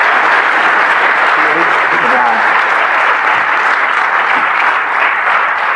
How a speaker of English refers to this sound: Okay, you guys know the drill. Round of applause for our first time speaker.